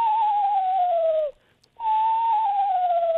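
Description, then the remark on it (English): A person whistles an imitation of a screech owl's whinny, a call said to sound like a little horse up in a tree: two long, mid-pitched tones that slide gently downward, separated by a brief pause, steady and fairly loud with no talking. “And then screech owls, we would also have, unless you're in the farther north, and they do a whinny and a trill.”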